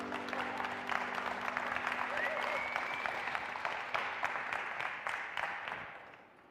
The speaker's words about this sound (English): Please take a seat and welcome in. Let's give our worship team a round of applause.